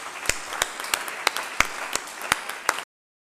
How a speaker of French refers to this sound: Voilà, on vous applaudit bien fort, on vous remercie.